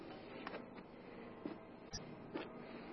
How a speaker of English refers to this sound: Wait a minute. You hear that? What? The train, you hear it?